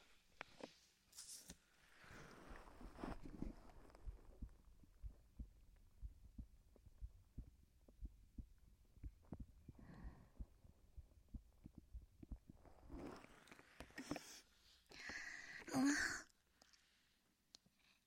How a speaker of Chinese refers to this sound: 刚刚在姐姐怀里，是不是听到了姐姐的心跳声？